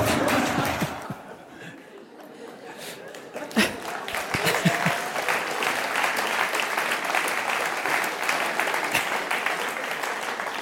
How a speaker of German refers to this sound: Also die Lachen und der Applaus sagen mir, dass man den Spruch in Bern durchaus auch verstanden hat.